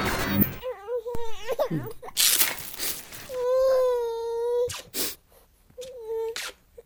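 A baby cries in several bursts: wavering whimpers first, then a long sustained wail and a shorter cry, broken by breathy sobbing gasps.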